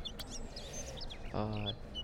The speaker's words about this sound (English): Birds sound cool. I like the sounds that birds make. My bird singing.